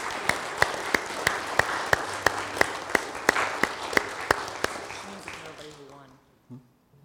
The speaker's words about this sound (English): And so let's just give God a round of applause for what he is doing here. Let's just give God a round of applause.